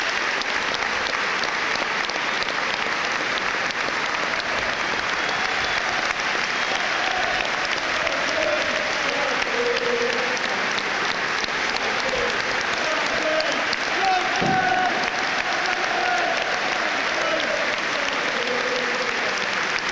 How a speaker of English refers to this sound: Minutes of applause to remember the great man.